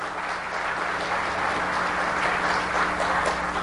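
Steady crowd applause for the event's newest goon, a dense wash of many hands clapping at an even, moderately loud level throughout, with no voices standing out.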